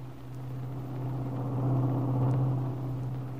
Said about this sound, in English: At that same moment, Kit and Mrs. Kingsley were sitting in the rear of the big car while Max drove carefully back to Malibu.